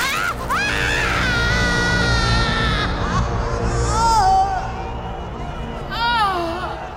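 A woman, the Rani, screams in agony from below after being thrown onto the sharp spike of the lingam at an altar, her loud, anguished cries rising and falling in long, wavering wails over a low background rumble.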